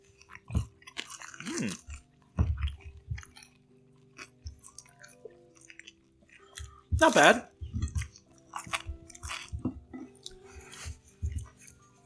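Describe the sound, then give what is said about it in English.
Loud crunching as someone chews crispy chicken wings, with repeated bites and wet mouth noises in irregular bursts, and a brief spoken remark partway through. “These wings are very crunchy.”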